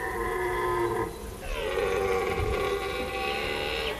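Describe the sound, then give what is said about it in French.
A red deer stag bellows during the rut: a loud, drawn-out, harmonic roar lasting about a second, then a longer second bellow that starts high and slides down before holding steady, with no talking. “On dirait que le cerf brame, hein, c'est le bruit qu'on appelle brame.”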